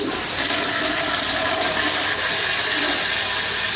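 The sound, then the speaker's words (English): A toilet flushes loudly, a steady rushing roar of water that holds at full strength for several seconds with no voices over it. “Flush it, flush it, flush it.”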